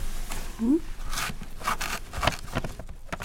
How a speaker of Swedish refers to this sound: projektledare på Funktionsrätt Sverige, bläddrar i en kartong bestående av ramar med olika konstverk. Mest fotografier, men också målningar.